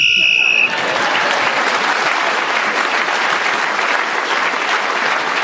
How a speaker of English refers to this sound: Clement Freud was then speaking as the whistle went and gained that extra point.